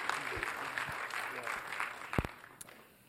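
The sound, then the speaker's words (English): An audience claps together in a steady, dense patter of many hands that holds for a few seconds, with a couple of sharper claps standing out before it tapers off. “Let's give them a round of applause for being brave”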